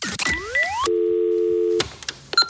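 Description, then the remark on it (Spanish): A steady, continuous landline telephone tone hums for about a second, preceded by quick rising electronic sweeps and followed by clicks and faint line noise; no one speaks. “Pero sí que tenemos un teléfono fijo y eso tiene mucho mérito.”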